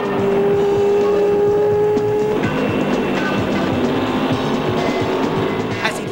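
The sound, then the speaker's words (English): Loud car and motorbike engines roar continuously as a car chases a motorbike off-road, with a high steady whine at first giving way to dense, gritty revving and rumbling as the vehicles race hard over rough ground. “Jane pursues the biker off-road.”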